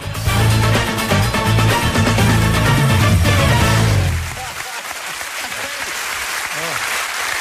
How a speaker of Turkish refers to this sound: Çok teşekkür ediyoruz efendim, sağ olun, çok güzel alkışlar. Yani inanın dijital olsa da bunu hissettiriyorsunuz ya, siz de ne biçim insanlarsınız.